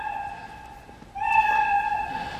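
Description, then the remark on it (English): A cat meow sound effect, a steady, tonal cry that holds for about a second, then swells louder and lasts nearly another second. It plays clearly on its own with no talking. “It turns out we don't have to use just the meow.”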